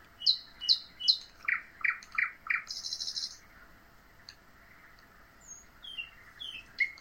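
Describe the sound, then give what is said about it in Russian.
A bird sings, opening with a quick run of repeated bright notes, then a buzzy trill, followed by scattered higher chirps and whistles over a quiet background. “Снова птичка запела.”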